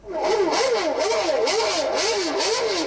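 High-pitched Formula 1 racing car engines whine and rise and fall in pitch over and over in a steady cycle, loud and continuous, played from a tape recorder during lunch by a German fan group at Mogyoród, Hungary, venue of the Hungarian Grand Prix, with no voices.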